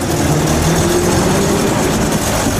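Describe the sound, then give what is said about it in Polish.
A vintage Jelcz city bus, an 'ogórek' of the kind that carried passengers in the 1960s and 1970s, runs on a tourist line in Łódź during the May holiday; its engine gives a loud, continuous rumbling drone with a low humming tone and no pauses or voices. “Ogórki, czyli popularne jelcze, które woziły pasażerów w latach 60. i 70. ubiegłego wieku, ruszyły na liniach turystycznych w tym mieście.”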